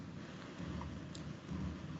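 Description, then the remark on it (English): Steady rain hisses softly throughout, with a low rumble of thunder swelling underneath. The whole scene is faint and continuous, and no one speaks. “Because the rain, Tadeu. Might be. Is it raining? Yes.”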